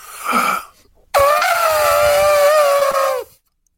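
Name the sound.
voice imitating an elephant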